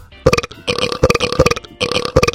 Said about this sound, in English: Those are the two burps I made into a little song there.